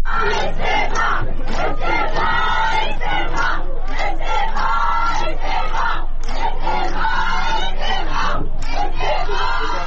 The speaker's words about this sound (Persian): گروهی از ساکنان شهر تبریز امروز شنبه در اعتراض به قتل سگهای بی سرپرست به دست نیروهای شهرداری در مقابل ساختمان شهرداری تبریز تجمع کردند. معترضان در این اجتماع با دادن شعارهایی خواستار استعفای شهردار تبریز شدند.